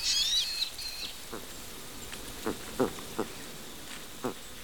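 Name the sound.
bird call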